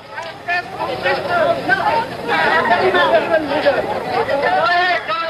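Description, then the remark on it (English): Crowds of Vietnamese trying to get into the U.S. Embassy on April 29th, 1975, clamor with overlapping shouts and chatter, many voices talking and calling out at once in a steady, loud babble that never lets up. “Here, the sound of crowds of Vietnamese trying to get into the U.S. Embassy on the same day, April 29th, 1975.”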